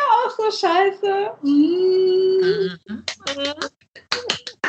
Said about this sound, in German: Ich höre dich schon wieder klatschen.